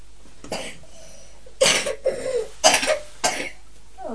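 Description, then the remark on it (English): A young boy coughs several times in a row, with four or five harsh coughs spread over a few seconds and short pauses between them, with no talking. “You coughing boy.”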